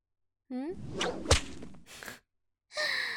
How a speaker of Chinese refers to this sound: 好像每挨一鞭子，你嘴里都紧一下呢。